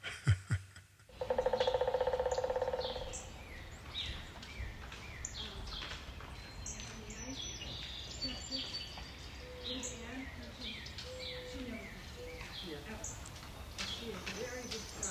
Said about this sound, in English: Have you noticed the woodpeckers? Hey, did you just record that recently? Yeah, this morning. It's been so loud. We have several woodpeckers in the neighborhood.